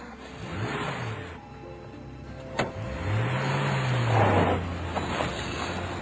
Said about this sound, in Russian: И машина тронулась по направлению к зеленой долине.